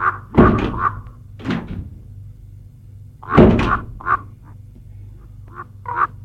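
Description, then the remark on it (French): Two heavy car door slams, as two people get out of a car stopped on a small flat path in open countryside, land about three seconds apart, each a loud, dull thunk, with softer clicks and shuffling sounds in between and no one speaking. “Ils sortent de voiture tous deux.”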